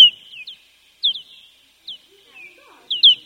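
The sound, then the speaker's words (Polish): Recorded bat echolocation calls: sharp, high, downward-sweeping chirps arriving in irregular bursts of one to three, clear against an otherwise quiet background. “No tutaj jeszcze nietoperze, to wam, nie wiem, słuchaliście nietoperzy? No to posłuchajcie, tu są cztery gatunki, dźwięki mam trzech.”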